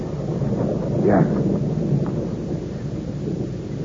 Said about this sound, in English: In this rain? Yes. Monsieur, it has started to rain.